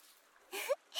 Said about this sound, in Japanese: でもシュワシュワする泡を触るのは楽しいですよね。